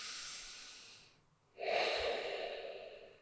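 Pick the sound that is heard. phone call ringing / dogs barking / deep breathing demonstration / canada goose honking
deep breathing demonstration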